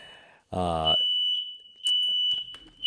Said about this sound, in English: Oh, great! I have a smoke alarm going off.